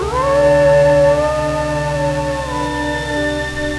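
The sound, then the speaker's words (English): Several wolves howl together in a loud, sustained chorus, their long wavering notes overlapping and sliding slowly in pitch without a break. “The howl of the threatening wolf, that ugly signal of catastrophe, echoes through our culture.”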